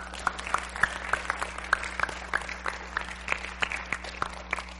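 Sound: audience hand clapping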